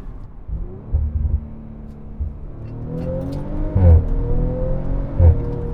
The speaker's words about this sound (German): Habt ihr hoffentlich einen kleinen Eindruck gehabt, warum, also A, wie er klingt, und warum mir dieses Auto aktuell so eine Freude bereitet. Ohne irgendwie aufdringlich zu sein oder den Leuten irgendwie auf den Pelz zu rücken.